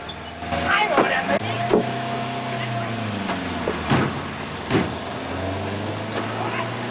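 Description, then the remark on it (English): A car engine hums and revs as Russ drives off, its pitch rising and falling as it pulls away, with a few brief bumps and clunks over a steady rumble, clear. “There's no room for Barry, so he gets in the back as Russ drives off.”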